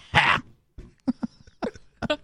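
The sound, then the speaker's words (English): A person's raspy, hacking vocal grunt in imitation of a singer, like a cat coughing up a furball: one harsh, loud burst followed by a few short, choppy guttural bursts. “Sounds like a cat, like coughing up a furball.”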